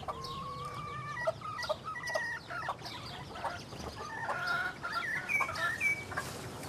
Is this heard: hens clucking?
yes